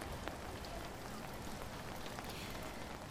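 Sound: rain falling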